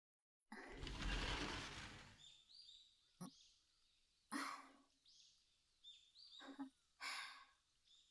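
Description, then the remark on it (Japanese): Small birds chirp faintly and intermittently on a fine-weather morning, after a loud rushing whoosh at the start, with a few sharp knocks and soft bumps. “おはようございます、小鳥さんたち。いい天気ですね。”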